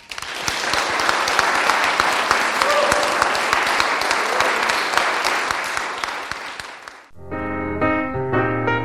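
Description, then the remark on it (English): Sustained, dense applause from an audience for the performing artists, steady and loud for about seven seconds, then it stops abruptly and a tonal music passage with clear sustained notes begins. “Can we give the artists one more really warm round of applause?”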